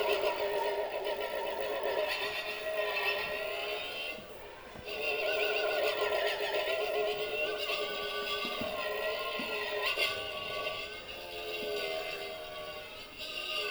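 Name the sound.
motorcycle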